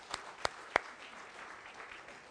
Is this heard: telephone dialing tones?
no